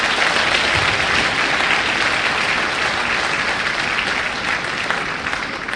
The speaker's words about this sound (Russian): Пожалуйста, аплодисменты в качестве поддержки вашей молитвы.